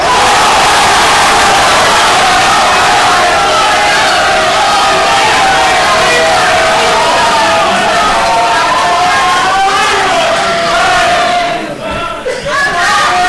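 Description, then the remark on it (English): On a count of three, a large crowd shouts their different school cheers all at once, such as Roll Tide, Go Vols, Fight On and Hook 'em, a loud, continuous roar of overlapping voices that holds steady for several seconds before tapering off near the end. “On the count of three, I want your school cheer all at once.”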